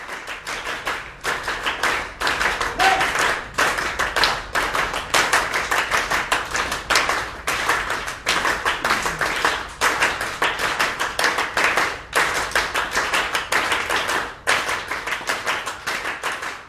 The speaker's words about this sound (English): And then the audience and us all joined in and did Steve Reich's clapping music, which is rhythm.